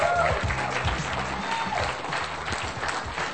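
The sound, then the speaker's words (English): A room full of people at a prepaid legal business meeting claps steadily for brand new associates, the dense applause filling the space at an even, moderately loud level, with a few voices and cheers mixed in throughout. “We applaud you.”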